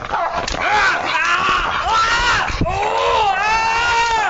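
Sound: man screaming in pain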